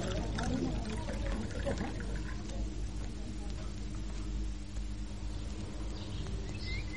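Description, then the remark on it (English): A drink is poured steadily into a cup, a continuous splashing and gurgling that runs for several seconds, with low voices murmuring in the background. “Shall I pour? Oh, please do.”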